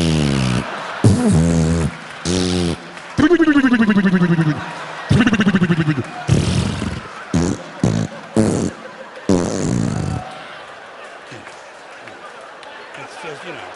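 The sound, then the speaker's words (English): A man's voice imitates a queef with a string of loud, squeaky, sputtering bursts of rising and falling pitch over about ten seconds, followed by an audience laughing and murmuring. “A pussy fart is like when you're making love to a woman who's got a little extra air in her vagina.”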